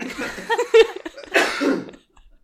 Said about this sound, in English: You've had like the statute of limitations on you coughing in podcasts has run out